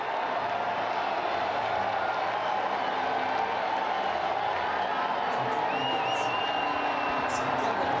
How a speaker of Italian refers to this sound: Sentiamo la piazza, ecco, che applaude.